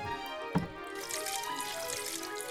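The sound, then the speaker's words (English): A sharp splash is followed by a steady stream of dew water pouring and trickling from a wet fleece into a bowl, moderately loud, with no voices. “The ground is dry, but the fleece, it's wet, filled with dew. A bowl. I need a bowl.”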